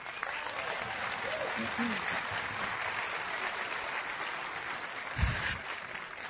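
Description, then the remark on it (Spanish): An audience claps in a steady, dense wash of applause lasting several seconds. Faint voices and a brief low thump near the end mix into the clapping. “Así es que dense un aplauso.”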